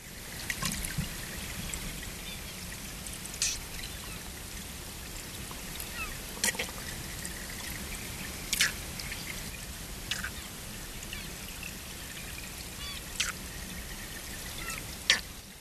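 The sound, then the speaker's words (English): Continuous rushing water noise with a handful of short, faint buzzing air-movement sounds from a white sucker fish, spaced irregularly every few seconds and barely rising above the flowing water. “Yes, that's another example of air movement sounds that we've just published. That's from the white sucker,”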